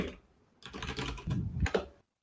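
Rapid clattering of keys on a computer keyboard, a dense burst of sharp clicks lasting about a second and a half, then stopping abruptly. No voices.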